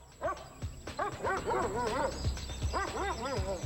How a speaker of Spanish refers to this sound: Los perros nos llevaron con rapidez a un árbol y estaban ladrando, lo cual nos asustó un poco al pensar que podría estar encima del árbol y vimos una trampa de ciervos.